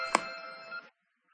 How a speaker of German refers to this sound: Und jetzt schiebe ich das wieder zu und beende den Ruf.